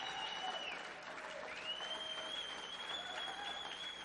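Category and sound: crowd, audience clapping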